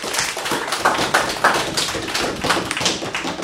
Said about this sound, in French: Bravo, taper sur les tables, c'est pas c'est mal, bon, ouais.